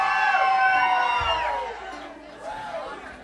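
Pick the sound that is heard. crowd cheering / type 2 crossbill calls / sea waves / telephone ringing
crowd cheering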